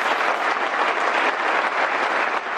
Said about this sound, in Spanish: Esa ovación en la despedida de Leo Messi